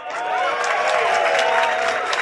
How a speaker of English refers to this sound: We've left a short gap in the recording of this intro to allow for applause. If there was no applause, please imagine there was some applause.